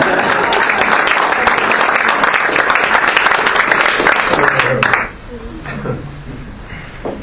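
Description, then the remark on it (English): Loud, dense applause from a large audience giving themselves a standing ovation claps steadily for about five seconds, then cuts off abruptly, leaving a quieter murmur of voices and a few stray claps. “And now I want you to give yourself a big round of applause. This is your own standing ovation.”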